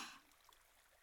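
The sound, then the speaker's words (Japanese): Soft, steady trickle of a small stream flowing nearby, a continuous gentle babble with a slightly louder splash at the start, no voices present. “小川のそばに行ってみましょう。”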